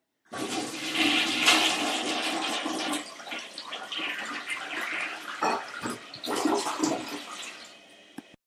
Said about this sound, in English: let's see if our toilet still works after last year.